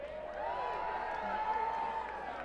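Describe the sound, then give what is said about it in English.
A concert audience yells and cheers together in a dense, sustained roar of many overlapping voices, steady and loud throughout with no single voice standing out. “It sounds like you could yell that louder.”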